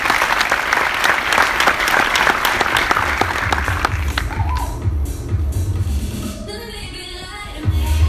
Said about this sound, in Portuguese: Uma salva de palmas, muito obrigado para vocês.